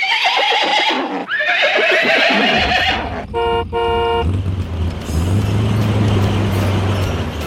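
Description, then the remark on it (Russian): Two loud, shrill whinnies from Ded Moroz's magic troika horses rise and fall, followed by a brief blaring horn blast and then the steady rumble of the running engine of the flying truck 'Ded Moroz Express'. “Целую неделю волшебная тройка Деда Мороза и летающий грузовик «Дед Мороз Экспресс» с 20 снеговичками на борту носились из города в город, с улицы на улицу.”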